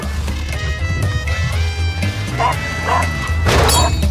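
A woman smashing her husband's nearly new car: several heavy crashing blows land one after another, loud, over a steady musical background.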